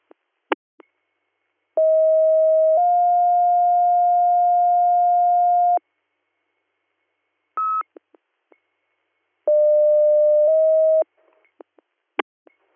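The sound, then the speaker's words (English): Dispatch pager alert tones for an ambulance call in Indianstone Township for a 64-year-old male with possible CVA: a long, steady electronic tone that steps to a slightly different pitch and holds for several seconds, then a short beep and a second, briefer two-tone sequence, with scattered clicks. “Western MS, disregard your tones.”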